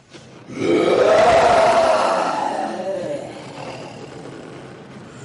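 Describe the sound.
A Broadway puppeteer imitates a tiger's roar for a tiger puppet: one long, loud, rasping growl that swells quickly, holds, then slowly fades into a low rumble over several seconds.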